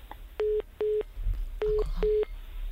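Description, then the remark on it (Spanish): A phone line's disconnect tone after the other party hangs up the call: four short, even beeps at a steady pulsing rhythm, clear and fairly loud over faint line hiss. “¿Ha colgado el teléfono? ¿Ha colgado el teléfono, puede ser? ¿Nos ha colgado?”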